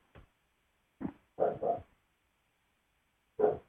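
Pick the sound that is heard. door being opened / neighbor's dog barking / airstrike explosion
neighbor's dog barking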